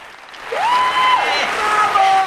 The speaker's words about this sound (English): They cheer at the bakery.